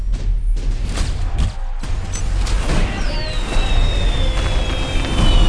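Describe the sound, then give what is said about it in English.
Fireworks go off in a loud, continuous barrage: sharp booming bursts and crackles, with whistling streaks rising over the noise partway through. “Are those fireworks?”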